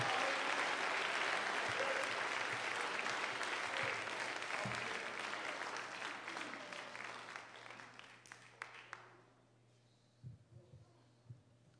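An audience claps their hands for Jesus in a dense, sustained round of applause that gradually fades over about nine seconds, leaving a steady low hum and a few scattered sounds.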